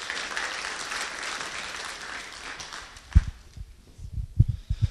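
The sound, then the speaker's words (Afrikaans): An audience breaks into dense, steady applause that fades out after a few seconds, leaving a few scattered low thumps and knocks. “Kan ons vir my hande klap gee?”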